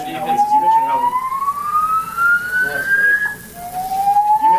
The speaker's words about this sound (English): So during the post-game press conference, head coach Matt LaFleur was talking about it, and an alarm sounded.